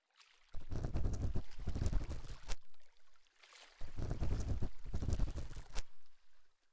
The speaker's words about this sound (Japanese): 私の好きなこのせせらぎの音、チャポンチャポンって聞きながら膝枕をして